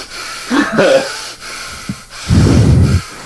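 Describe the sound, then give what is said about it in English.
A voice imitates a substitute art teacher standing behind a student in a classroom and breathing heavily through her nose: a few loud, snorting breaths in and out, with the last exhale long and rumbling. “But what she would do, which you don't, thankfully, is she would come around the classroom while we were working, and she would stand behind you, and she would breathe really heavily through her nose and be like...”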